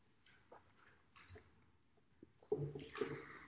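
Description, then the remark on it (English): Quiet slurping and swallowing as a speaker takes a sip of water, ending in a louder burst of liquid and throat sounds with no talking. “Oh, I hate the taste of that water.”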